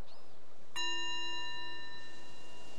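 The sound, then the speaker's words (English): A single meditation bell is struck once at the end of a guided meditation, its clear, shimmering tone ringing out and slowly fading over a couple of seconds in otherwise quiet surroundings. “So the bell is our invitation to bring the awareness back to the surroundings.”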